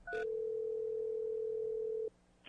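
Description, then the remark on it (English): A steady, loud telephone dial tone holds a single pitch for about two seconds before a call from a planning department to a woman. It begins with a brief higher click and cuts off abruptly into quiet line noise. “This is where a planning department calls a woman”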